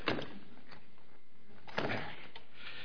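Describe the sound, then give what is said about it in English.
A chair being adjusted: a short mechanical clatter, a pause of scraping and creaking, then a second louder clunk and rattle. No one speaks. “Now, while you're opening your Bibles, I'll fix this chair, because if I fall out of it, you'll laugh at me.”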